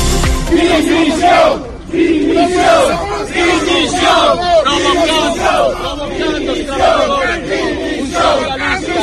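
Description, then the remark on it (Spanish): A crowd of protesting urban transport workers in Vigo shouts and chants loudly and continuously, many voices overlapping in rhythmic, rising cries with no break, as they try to disrupt an event attended by mayor Abel Caballero at the lighting test of the Alo lift. “Estos eran los gritos de los trabajadores del transporte urbano de Vigo que ayer intentaron boicotear un acto de Abel Caballero.”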